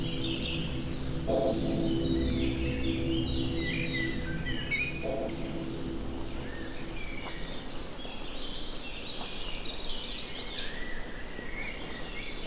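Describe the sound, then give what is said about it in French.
Many birds chirp and trill at once in a dense, continuous chorus in a forest in the Creuse, under a mix of clouds and sun, with a steady low rumble of background noise underneath throughout. “C'est le concert des oiseaux.”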